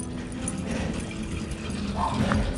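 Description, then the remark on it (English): A dog barks amid a steady, dense wash of background noise. The barks are muffled and blend into the continuous rumble rather than standing out as sharp, separate yaps. “doggy barking.”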